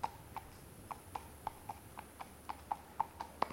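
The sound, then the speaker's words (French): Horse hooves clip-clop in a steady, even rhythm as a man leaves with his horse into the night, about a dozen sharp hollow knocks, heard alone with no talking; the strikes are fairly quiet. “répond-il, puis il disparaît dans la nuit avec son cheval.”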